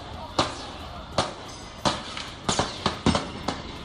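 A series of sharp gunshots fired at night by Mossos d'Esquadra police in Cambrils, Baix Camp, shooting down four terror suspects: roughly seven or eight cracks at uneven intervals, coming quicker toward the end, over a steady background hiss.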